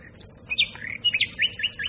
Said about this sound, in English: Oh, God, I thought it wouldn't be long before he started. Who? That bloody sparrow. What's he got to get up so early for? Shut up! I think at least once in a while he'd stay where he was and have a lie in, but no.